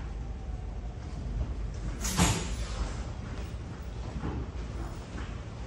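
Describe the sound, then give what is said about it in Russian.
A heavy door is pushed open with one short, sharp scrape partway through, set against a steady low hum of background noise; no one speaks. “Тяжело открывается.”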